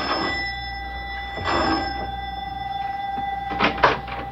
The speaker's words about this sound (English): Both of them are worried now as Mac presses the doorbell at his house in answer to the professor's elated phone call.